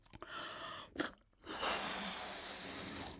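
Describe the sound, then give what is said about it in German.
Someone takes a few short breaths, a quick sharp inhale, then blows a long steady rush of air into a balloon. The breathy hiss holds for more than a second. “Und ich habe hier zum Beispiel einen Luftballon, in den puste ich mal rein.”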